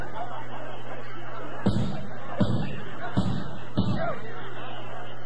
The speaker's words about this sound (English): Go down the stairs. I beg you, the doors are almost broken in.